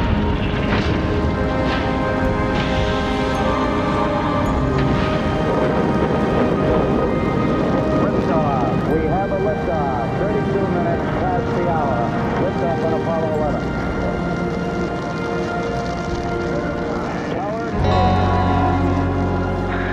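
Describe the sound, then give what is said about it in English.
Rocket engines roar at launch after a countdown and ignition sequence, in a loud, continuous, rumbling blast that fills the whole stretch, with voices faintly audible beneath the thunder and a brief surge near the end. “Ignition sequence start. 6, 5, 3, 2, 1, 0. All engine running.”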